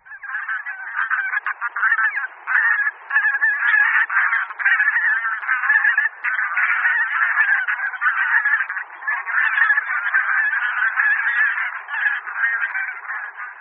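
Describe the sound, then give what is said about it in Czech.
A dense, continuous chorus of bean geese (Anser fabalis) honking, many overlapping nasal calls from a large flock, steady and fairly loud throughout with no pauses and no talking. “Slyšeli jsme hlas husí polních, vědecký Anser fabalis.”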